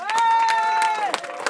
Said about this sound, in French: Merci, vous pouvez applaudir